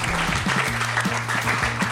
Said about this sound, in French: Applaudir une nouvelle fois.